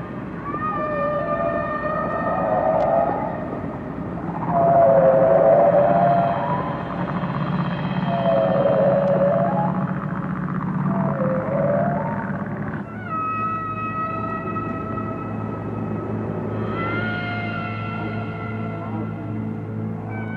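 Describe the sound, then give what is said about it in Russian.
Eerie, drawn-out calls of whales communicating in the depths of the ocean rise and fall in long, wavering tones over a low underwater rumble, several overlapping moans and swoops, with no voices present. “На самом деле это никакие не привидения, а это запись китов, переговаривающихся в толще океана.”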